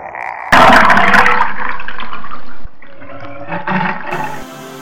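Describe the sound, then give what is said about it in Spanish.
Water gushes in with a loud, sudden roaring rush, churning and bubbling for a couple of seconds before dropping to a quieter gurgling flow that trickles on to the end, as water pours into the mouth of a drowning caiman. “mientras mordía con rapidez la garganta del caimán, que dejaba escapar gritos de dolor que se apagaban con los borbollones de agua que entraban a cántaros.”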